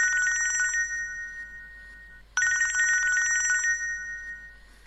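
A woman's mobile phone rings with a fast, warbling electronic trill, two distinct ring bursts separated by a short pause, loud, with no one speaking.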